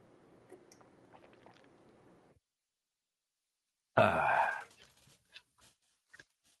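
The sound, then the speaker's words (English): Sipping and swallowing noises from someone drinking water, followed after a pause by a loud, breathy gulp or exhale and a few small mouth clicks. “Let me take a drink of water here, because I'm starting to flake.”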